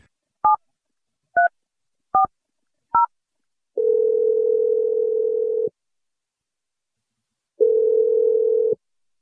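Four quick touch-tone beeps of a phone number being dialed, followed by a steady ringback tone that sounds twice with a pause between, clear and close, no voices.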